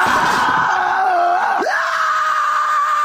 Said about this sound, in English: the scream I hear is my diet saying, no!